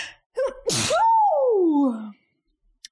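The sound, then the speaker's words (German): A single loud sneeze: a quick intake of breath, then an explosive burst trailing off into a long, falling voiced 'choo' before silence. “Das war auch, ich muss niesen.”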